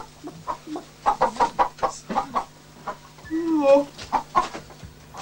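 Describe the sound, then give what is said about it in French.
In a scene from the film Ryaba ma poule, Konchalovsky imitates a giant clucking hen talking with a slightly drunk peasant woman: a quick run of short clucks, a drawn-out warbling squawk, then a few more clucks over a low steady hum. “Eh bien, c'est Kanchalovsky lui-même qui jouait la poule géante qu'on voit dans cet extrait discuter avec une paysanne un peu ivre.”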